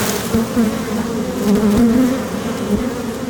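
swarm of honeybees buzzing

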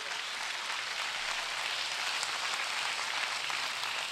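audience clapping together

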